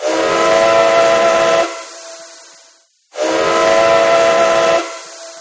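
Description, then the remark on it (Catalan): At a train station on the Barcelona–Mataró railway line, a passing train's whistle sounds two long, loud blasts separated by a brief pause, each with a breathy steam hiss and a short fading tail. No voices are heard. “Ah, escolteu. Ara passarà un tren.”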